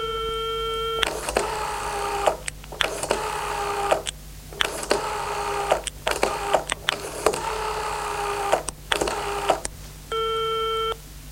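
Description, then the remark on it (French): A telephone rings in the evening in repeated bursts, a harsh electronic trilling with short pauses between rings, loud, framed by a steady tone at the start and end, with no one speaking. “Soir, quelqu'un téléphone à Lucien.”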